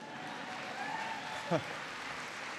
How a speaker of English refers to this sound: Yeah, that's worth applauding.